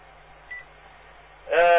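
A thin, narrowband phone-line hum gives way to a loud electronic telephone beep near the end, preceded by a brief, faint blip of tone.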